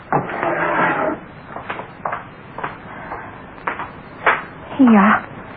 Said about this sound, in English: get me that hammer out of the drawer. It's got that thing at the end for taking nails out.